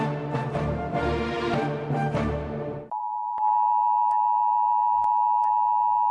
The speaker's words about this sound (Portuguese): A sirene que você está ouvindo é emitida pelo celular quando tem uma emergência avisando sobre situações que podem ocorrer desastres. É o Defesa Alerta que começa a funcionar no norte do país a partir de amanhã.